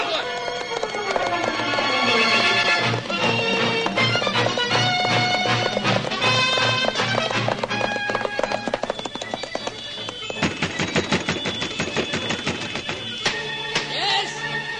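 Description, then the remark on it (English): Rhythmic galloping hoofbeats of William Dawes's horse riding through a moonlit night to spread the alarm drive along beneath a loud, busy orchestral score, the steady beat of hooves running through most of the passage with a brief horse whinny near the end. “Through the moonlit night, William Dawes rode, and he rode like mad.”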